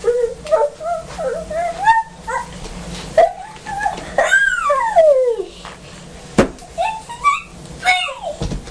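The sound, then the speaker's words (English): A dog whimpers and yips in a string of high, wavering whines, some sliding downward in pitch, fairly loud, with a few short sharp yelps and a brief knock. “Got a doggy, hasn't he?”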